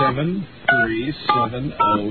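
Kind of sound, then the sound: signal or alarm, telephone keypad dialing tones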